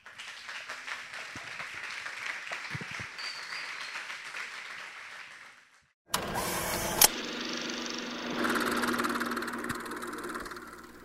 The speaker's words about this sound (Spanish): Bueno, primero que nada quiero pedirles un aplauso para Andrea Testa, Francisco Márquez y Loli Moriconi. Muchas gracias por venir, por ser parte de nuestro ciclo.